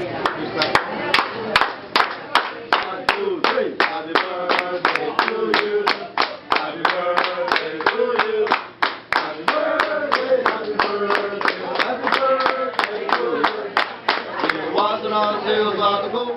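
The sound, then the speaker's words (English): Benihana restaurant wait staff perform the birthday clapping song: a group claps in a quick, steady rhythm throughout while voices sing or chant together over the beat. “You know, they'd have their wait staff with out the there clapping, doing right? the clapping song.”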